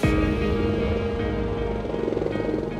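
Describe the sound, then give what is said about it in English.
A helicopter flies just after sunrise near Santiago, Chile, heading high into the Andes, its engine droning steadily with a heavy low rumble and a faint rhythmic rotor pulse, loud and continuous with no voices. “Our chopper is taking us high into the Andes.”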